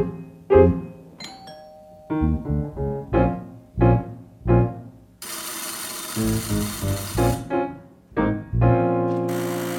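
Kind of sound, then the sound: household object, door buzzer ringing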